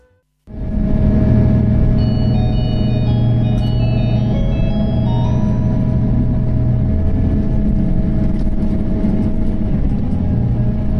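The engine of a JR Hokkaido 283-series diesel limited express train, the Okhotsk No. 1 bound for Abashiri, departing Sapporo, starts up after a brief silence and holds a loud, steady low drone with humming tonal overtones, plus some faint higher whines, throughout.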